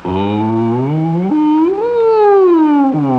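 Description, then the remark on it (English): A voice imitates the fire siren that blew in the night when the mill burned down, a sustained, loud wail that rises and falls in pitch, sweeping up, dipping, climbing again and then dropping, with no words spoken. “I was awakened in the middle of the night by the blowing of the fire siren.”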